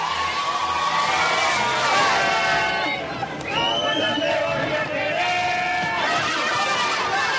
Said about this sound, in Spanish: Es un hotel que está a unos 30 kilómetros de Wembley, un hotel con campo de golf, el típico lugar idílico de la campiña inglesa. A pesar de la lejanía del centro de la ciudad, allí había bastantes aficionados que estaban aplaudiendo la llegada.